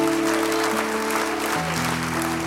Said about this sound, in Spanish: Si yo fuera usted, le aplaudiera a este Dios grande y hermoso que servimos.